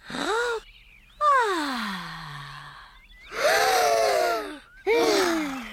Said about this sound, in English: This is our campsite. Breathe in the wonderful fresh air, children.